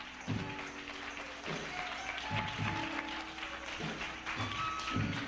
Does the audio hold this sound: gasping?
no